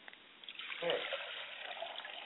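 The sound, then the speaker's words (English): Water poured out as a libation to the west during a ceremony, in a steady, splashing trickle onto the ground, moderately loud, with a brief fuller gush near the start before it settles into a continuous pour. “I pour libations finally to the west, and we say, Ashe.”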